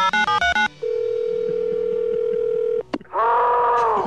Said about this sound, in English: At the first sign of forced entry, the Jerry Clower Alarm emits this distinctive high-powered attention signal. At the same time, the automatic telephone dialer alerts our central monitoring station.